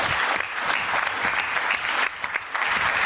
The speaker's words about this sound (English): So before we start anything, can we just like give them, I mean, they're not here, but let's give them a round of applause and say thank you very much.